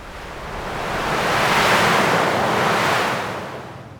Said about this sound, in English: Okay, okay, we're on a boat. We're out to sea.